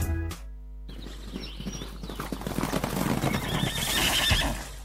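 A skittish colt neighs in a long, shrill whinny that rises and wavers, with hooves clip-clopping underneath and a low steady hum throughout.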